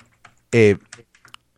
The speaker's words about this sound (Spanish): Se oye tu teclado